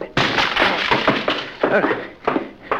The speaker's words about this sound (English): Well, there's no time. Excuse me while I try to ruin a library door.